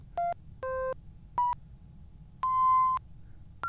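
A Baby 6 synthesizer sequencer steps through a short run of bright electronic beeps at different pitches, five clear notes of uneven length with brief gaps, over a faint low hum.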